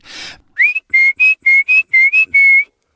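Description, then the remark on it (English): A brief rush of noise, then a person at a back door whistles a quick, bright run of about seven short notes ending on a longer held one, calling a small dog back in, fairly loud. “… would go to the back door and call him in with a little whistle”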